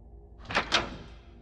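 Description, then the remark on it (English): A door clicks twice in quick succession, two short sharp latch sounds about a fifth of a second apart, fairly soft against a quiet background with no one speaking. “My boyfriend was at work, and I was by myself, when I heard what sounded like the click of a door.”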